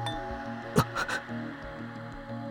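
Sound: doorbell chime ringing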